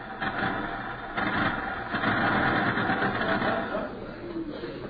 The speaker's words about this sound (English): Was that a car stopping out front? No, it was not a car. It was Ralph. In that perambulating collection of cans he calls a car. Look at him getting out, straightening his tie.